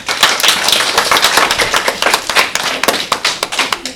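A group of CE1 schoolchildren clap and applaud together during the Bubble Time quiz game after their class scored 8 points, a dense, steady patter of many hands with some sharper individual claps standing out, lively throughout.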